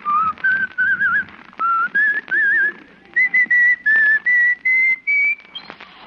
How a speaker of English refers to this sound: Let's follow him now as he walks blithely down the icy street, whistling a merry tune.